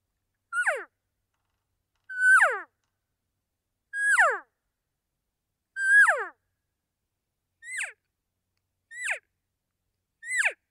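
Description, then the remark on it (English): Imitated cattle calls: four high, whistly mews that slide sharply downward, evenly spaced, which are cow calls, followed by three shorter, choppier calls, which are calf calls. No talking, just the calls against silence. “So I'll do a couple cow calls and then I'll do a calf call.”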